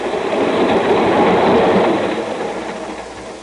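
A train rumbles steadily along the tracks, its wheels giving a dense, rolling clatter that stays loud throughout and eases off slightly toward the end. No voices.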